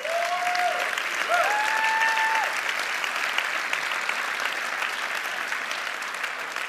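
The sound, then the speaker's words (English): An audience applauds steadily throughout, with a couple of rising whoops and whistled cheers early on over the dense, even clapping. “And I'm here to tell you, as happy as we are and as much as we cheer, there's more rejoicing going on in heaven.”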